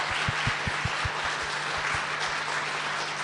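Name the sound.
audience applauding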